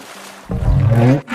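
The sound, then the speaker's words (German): A deep, rumbling roar of an Elasmosaurus, a marine reptile, bursts in after a quiet hiss and holds for under a second. It is loud and growly with a rich harmonic tone, then cuts off abruptly. “Kommt, dann laden wir den Elasmosaurus einfach mal ein.”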